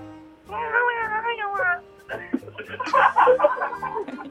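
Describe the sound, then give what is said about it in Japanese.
A player of the Kazusa Magic team, with a nickname, does a drawn-out, wavering meow imitation lasting about a second, then several people break into laughter and chatter. “猫の真似がうまいから。”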